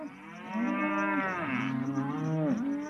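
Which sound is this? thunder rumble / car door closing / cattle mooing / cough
cattle mooing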